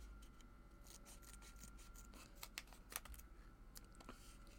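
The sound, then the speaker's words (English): Scissors snip and crunch through stiff, hard-to-open plastic product packaging in a quick series of sharp cuts, with a faint steady hum underneath and no talking. “Damn, these people make they shit really really hard to fucking bust open and shit, you know? But, you know, nigga like me, I got scissors.”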